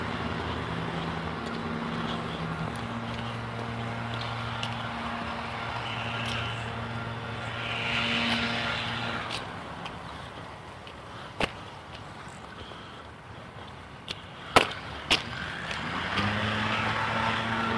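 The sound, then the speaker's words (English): A leaf blower used by a man outdoors at a quarter to 8 on a weekday morning drones steadily with a low, buzzy motor tone. Its pitch drops and thins out midway, then revs back up near the end, with a few sharp clicks in between. “Some guy out with a leaf blower.”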